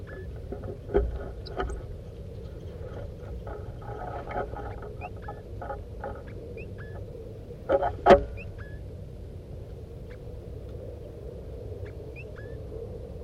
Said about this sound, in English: The other birds, the wild birds are here now. They're coming around. Stop. Start recording the wild birds chittering.